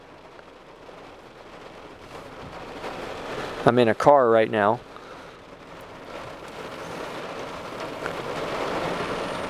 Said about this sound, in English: there are thunderbolts in my area. I'm not near the news. I'm sure it's a flash flood warning and thunderstorms. So I'm not going out in it.